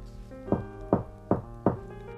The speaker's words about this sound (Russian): Август отворил входную дверь и постучал.